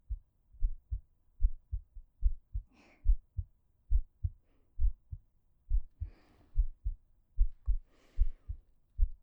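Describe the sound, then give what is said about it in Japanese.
A steady heartbeat thumps low and muffled in a quick regular rhythm throughout, with a few soft rustling or breathy bursts passing over it. “腹の音はダメだけど、心臓の音だったら別にいいもん。だから、たくさん聞いて。”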